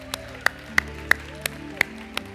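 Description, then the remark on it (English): A church audience gives the Lord a big clap, clapping together in a steady beat, about seven sharp, crisp claps roughly a third of a second apart, over a low, sustained musical hum with no talking. “Now give the Lord a big clap.”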